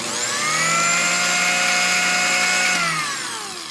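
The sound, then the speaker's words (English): A food processor motor whirs up to a steady, high-pitched harmonic whine, holds for a couple of seconds, then drops in pitch and winds down near the end. No one speaks. “Now, does anyone care what their food processor sounds like when it speeds up from low to medium to high?”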